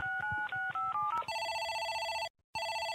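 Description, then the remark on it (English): A quick series of about six touch-tone dialing beeps, followed by a loud, steady electronic telephone ring that pauses briefly and then starts again, as phones are worked making cold calls. No voices. “And when we're not listening to Spike and Rachel, we're hitting the phones hard, making cold calls, trying to get anyone to give Spike a blowjob.”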